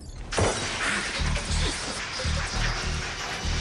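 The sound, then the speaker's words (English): A tiny meteorite (micrometeoroid) strikes a glass panel of a spaceship with one sharp, loud crack near the start, followed by a steady roar of noise and low, pulsing rumbles. “A tiny meteorite hits a glass panel”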